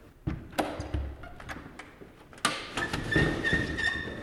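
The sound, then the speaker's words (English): Two wooden jib door panels below a window of President Lincoln's cottage in DC, leading onto the south veranda, are unlatched and swung open, with a series of knocks and clicks, then a louder clatter followed by rustling and a faint creaking squeak. “I'm going to open for you one of the jib doors that leads out onto the south veranda of the cottage.”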